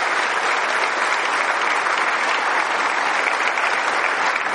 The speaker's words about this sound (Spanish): Sí pueden, denle un aplauso a Dios, usted lo puede salvar.